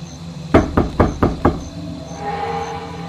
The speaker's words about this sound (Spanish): No nos han encontrado. Si fueran esas personas, no estarían tocando la puerta. Entrarían mientras dormimos.